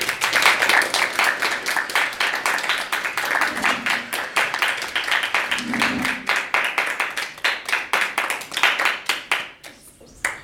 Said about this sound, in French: Nous sommes actuellement dans la salle de théâtre du lycée Lebrun et en compagnie de critiques de théâtre. Nous pouvons donc faire un tonnerre d'applaudissements pour